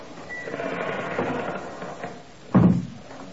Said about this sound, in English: And then, exactly like an old Leslie Howard Scarlet Pimpernel picture, the door opened slowly.